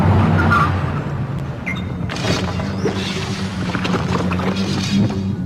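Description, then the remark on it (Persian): A car engine roars loudly and continuously as the vehicle speeds along without slowing, its driver not braking, its steady low drone broken by rattling bursts and whooshing swells. “این استاندارد ماشینه؟ اینا یه راننده استاندارد داره ولی دلشو نمیخواد ترمز.”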